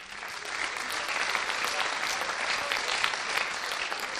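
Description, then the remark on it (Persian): Steady applause from a group for the person who asked a question, a dense, even patter of many hands clapping at moderate loudness with no voices standing out. “تشویقش کن.”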